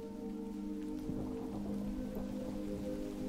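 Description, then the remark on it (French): Light rain begins in a sparse forest as the sky suddenly darkens before a storm, the first drops falling in a soft, steady patter, with scattered drops tapping faintly against a low, constant background hum. No one speaks. “Le ciel s'assombrit brusquement et quelques gouttes de pluie s'échouent sur votre visage.”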